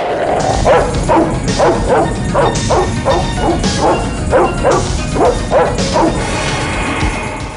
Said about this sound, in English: Inside the cargo area is a caged dog which snarls and barks at John as he enters.